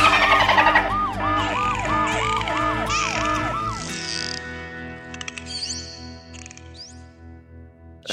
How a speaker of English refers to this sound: can we get a quick sting of the dolphin girl alarm just so that that's in the show?